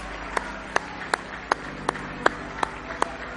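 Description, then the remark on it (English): An audience claps hands in praise of the Lord Jesus Christ, eight sharp, crisp claps in a steady even rhythm at a moderate tempo over a low background hum, with no talking. “Go ahead and give him a good hand clap.”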